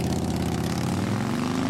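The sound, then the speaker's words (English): A loud Harley motorcycle engine rumbles steadily with a deep, throbbing drone, its pitch climbing slightly as it revs near the end. No voices are heard. “As Wisconsin is hitting the road on your Harley.”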